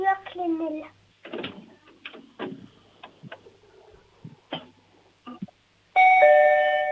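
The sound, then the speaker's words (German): A loud electronic doorbell chimes at the start and again at the end with bright sustained tones, separated by scattered clicks, knocks and faint handling noises in between. “Jetzt machen wir mal die Türklingel und dann kannst du mir gerne alles zeigen.”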